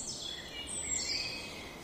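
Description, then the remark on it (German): Birds chirping in a forest: thin, high-pitched tweets and short whistled trills sound over a steady soft background hiss, moderately loud, with one bird chirping especially loudly, and no one speaking. “Dass die Vögel so mitspielen, ja, wie aufs Stichwort hat gerade einer noch besonders laut gezwitschert.”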